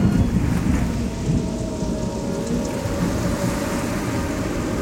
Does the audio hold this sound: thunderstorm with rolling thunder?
yes